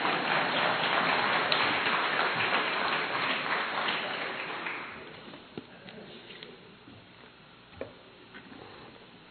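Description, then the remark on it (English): An audience claps steadily for about five seconds, a dense crackling wash of hands, then it thins out into scattered faint claps, taps and small room noises. “Go ahead and clap and I'll get a drink of water.”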